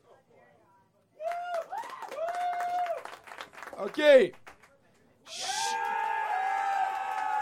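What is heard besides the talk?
audience applauding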